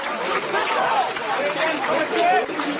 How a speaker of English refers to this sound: Hundreds of people chanted the media will not be silenced as police raided Zaman newspaper in Istanbul.